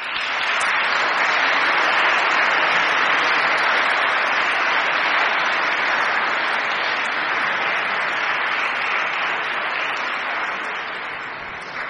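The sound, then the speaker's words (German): Sustained applause from a crowd, a dense, steady wash of clapping that holds at an even, fairly loud level for about twelve seconds before easing slightly at the end. No one speaks. “Und wenn ihr mögt, könnt ihr einmal einen Beifall geben.”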